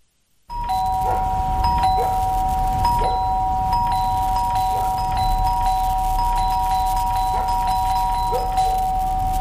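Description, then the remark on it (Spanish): A doorbell rings over and over, its bright chimes repeating roughly once a second above a steady, sustained electronic tone. Loud and constant throughout, with no voices. “¿Escuchaste eso? El cyber de Sodimac está tocando a tu puerta y tu casa lo sabe.”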